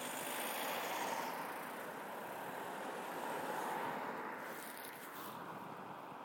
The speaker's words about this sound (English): Right, car coming.